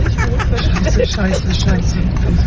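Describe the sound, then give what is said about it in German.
A car engine rumbles steadily as the vehicle drives through a water ford, with a continuous rushing splash and excited voices talking over it. “Jetzt fahren wir durchs Wasser.”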